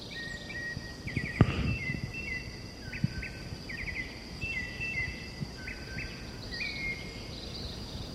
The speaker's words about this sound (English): This is white chin thrush, presumably. I haven't seen the bird yet.